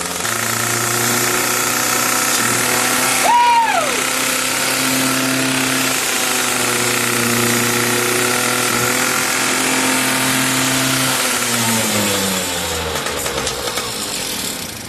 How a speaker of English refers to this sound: It's a motorcycle, but is it a disc slinger? Give it revs! Full speed!